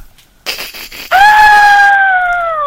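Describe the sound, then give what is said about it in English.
A woman lets out a loud, high-pitched scream that holds steady for over a second before tapering slightly, preceded by a brief breathy, rustling build-up. “You said women in horror, so I screamed and said boobies.”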